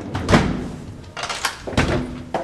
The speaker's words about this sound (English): And with that, Rotundo calls it a day, closing the reinforced door to the apartment and locking its treasure shut.